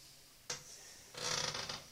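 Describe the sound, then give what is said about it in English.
A squeaky chair creaks and squeaks twice during a recording session in Chester County: a short creak, then a longer, strained squeal with a wavering, rubbing texture. It sounds quiet, with no voices. “Excuse the squeaky chair”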